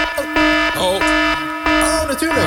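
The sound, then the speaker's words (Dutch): A loud, blaring horn alarm sounds in three sustained harsh blasts separated by short gaps, with brief voice-like warbles in between. “Mama appelsap-alarm.”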